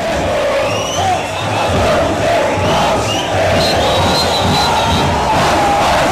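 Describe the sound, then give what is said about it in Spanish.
A large crowd of football fans chants in unison, a loud, sustained sung melody rolling on with steady rhythm and a dense roar of voices throughout. “El famoso grito en cagones, a ver.”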